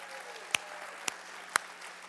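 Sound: audience applause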